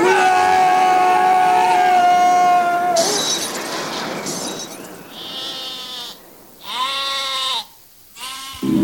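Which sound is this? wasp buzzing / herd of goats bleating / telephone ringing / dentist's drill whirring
herd of goats bleating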